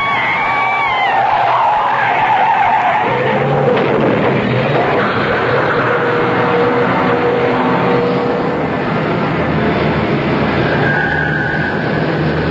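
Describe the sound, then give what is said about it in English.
A car whose brakes have failed runs a red light and skids with loud, squealing tires that give way to a sustained roaring rumble of a vehicle out of control, continuous for about twelve seconds with no talking. “Ed, you went right through that red light. The brakes are gone.”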